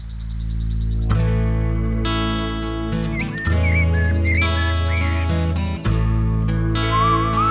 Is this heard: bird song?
yes